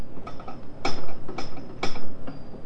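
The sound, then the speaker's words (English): A buckle and strap bang against a high chair leg in irregular metallic clanks, three sharp loud hits among fainter taps, each leaving a brief bright ring. “You bang your little buckle and strap on the leg of the high chair.”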